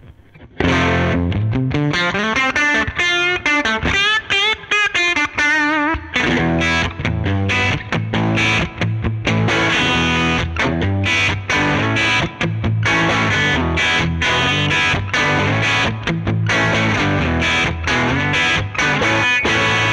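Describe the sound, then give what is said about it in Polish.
A heavily overdriven electric guitar played through a tube amplifier with no compressor in the chain and a Fender 2x12 cabinet simulation plays loud, dense distorted riffs and chords with sustained crunchy tone, starting with a sliding melodic phrase before settling into steady chugging rhythm, alone. “Więcej przesteru.”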